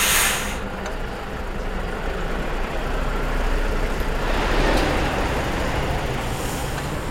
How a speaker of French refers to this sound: puisque les camions arrivent directement ici.